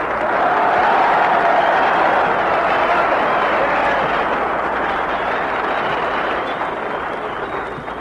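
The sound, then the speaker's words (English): A large audience applauds in a dense, steady roar of many hands clapping together, holding loud for several seconds before slowly tapering off at the end. No one speaks over it. “Darn it, that's more applause than I got.”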